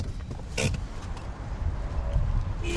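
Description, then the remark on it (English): A car rolls slowly and settles into a stop at the far end of a full-service filling station with a hydrogen section on the outskirts of Reykjavik, Iceland, its engine a low steady rumble, with a brief mechanical whir like a power window early on. No one speaks. “Skulason parks at the far end of this full-service complex, past the car wash, the pumps, the convenience store, and the snack bar.”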